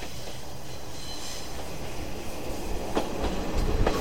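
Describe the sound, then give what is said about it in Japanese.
A yellow Heisei Chikuho Railway diesel railcar bound for Nogata rumbles past close by, its steady low roar and engine drone building toward the end, with sharp rhythmic clacks of wheels on rail joints over constant wind noise. “読めないんですけども、平成筑豊鉄道の黄色いやつが来ましたね。”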